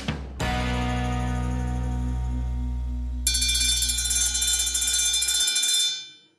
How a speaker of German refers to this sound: Was war das für ein Geräusch? Das war ein Streckentelefon. Die gibt es immer noch.